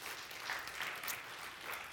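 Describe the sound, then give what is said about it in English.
Steady audience applause, a dense, even wash of many hands clapping with a bright, crackling texture and no voices above it, holding at a constant level throughout. “You can give Arvis and the others a round of applause.”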